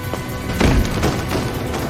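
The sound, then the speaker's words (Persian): Heavy blast-proof doors of a building slam shut, locking the people inside, with a loud, deep boom in the middle, surrounded by a few smaller thuds and clanks in a continuous rumbling, echoing space. No one speaks. “درای ضد انفجار.”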